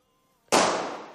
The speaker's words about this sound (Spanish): Pues oigo un petardo. Estamos en la calle La Viga